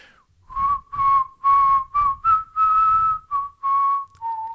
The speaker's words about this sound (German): Ja, wir spielen einfach Weihnachtsliederraten. Oh ja, das ist gut. Okay, ich pfeife jetzt eins und dann musst du überlegen, welches das ist, okay?